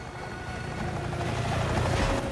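A pale green helicopter's rotor blades spin up with a deep, steady rumble and rushing roar that grows slightly louder as it rises into the air with three people aboard, with no voices.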